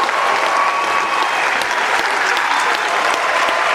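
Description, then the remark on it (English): Loud, sustained applause and a room-wide standing ovation from a large crowd at the COP21 climate conference in Paris as the Paris Agreement on Climate Change is adopted. Dense overlapping clapping holds steady throughout, with no voices standing out above it. “To the sound of impassioned applause and a room-wide standing ovation, the Paris Agreement on Climate Change was adopted on Saturday at COP21 by the parties to the UN Convention on Climate Change.”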